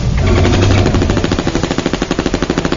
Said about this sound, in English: The Uzi fire wasn't concentrated enough to chill the creature, but it took enough lumps of flesh from its body to make it retreat in agony and confusion.